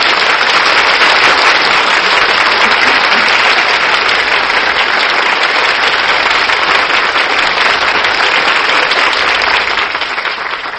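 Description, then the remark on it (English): Sustained, loud applause from a large audience at the end of a Screen Guild Theater radio presentation of Metro-Goldwyn-Mayer's Ninochka, a dense wash of many hands clapping at once that holds steady for about ten seconds with no voices on top. “I'm sure that applause told you how much our audience enjoyed your performance”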